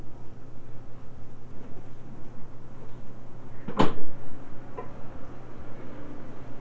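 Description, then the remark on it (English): A single soft, brief thud of a refrigerator door shutting, set against a steady low hum and faint background noise with no talking. “Close that refrigerator door.”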